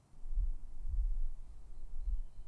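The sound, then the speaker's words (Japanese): An older sister's muffled heartbeat thuds slowly and steadily, a few deep, soft thumps heard as if through a chest, over a low continuous hum with no talking. “聞こえる？お姉ちゃんの心臓の音。”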